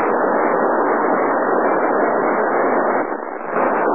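Loud, steady radio static hisses continuously from a receiver on a satellite downlink, a muffled band-limited rush with a brief dip near the end. No voices are audible.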